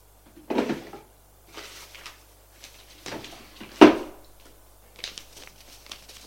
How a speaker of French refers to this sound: Il sort de son tiroir une pochette rouge.